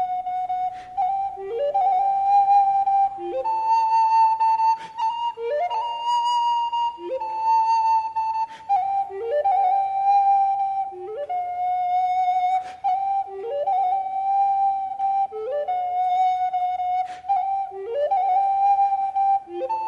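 A breathy pan flute plays a lively melody of short, rising runs and held notes, repeating a bright phrase around a steady central pitch, with no voices.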